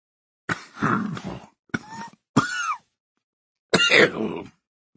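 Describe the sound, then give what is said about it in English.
A man sitting upright on a cot coughs into a handkerchief: four rough, raspy bursts, the second and third short and strained, with a brief pause before the last, heavier cough. No one speaks. “He coughs into his handkerchief before speaking.”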